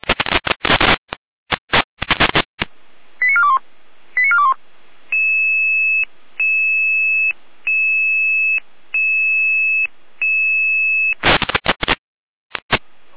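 Emergency dispatch alarm tones over a radio: bursts of static, a few quick rising chirps, then a steady series of alternating high electronic tones before the static crackles back.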